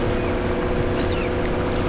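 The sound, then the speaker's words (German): A boat's outboard motor drones steadily as it leaves the harbour and heads south along the shore, with a low, constant hum and churning water, loud and continuous throughout, and faint high chirps over the top as hungry gulls follow. “Justus lenkte das Boot aus dem Hafen und fuhr dann dicht unter Land Richtung Süden.”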